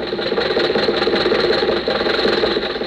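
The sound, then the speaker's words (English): A car engine runs steadily while driving home from the races, a continuous droning rumble with a faint rhythmic throb throughout and no one speaking. “When the races were over, Jack, Dennis, and I were riding home in Jack's car.”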